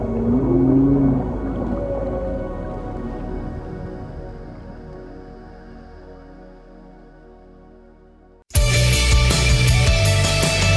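Low, drawn-out whale calls moan and warble, slowly fading over several seconds before being abruptly cut off by a sudden, much louder burst of dense sound.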